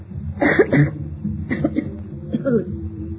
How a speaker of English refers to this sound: It's really very seldom that I cough any more like that.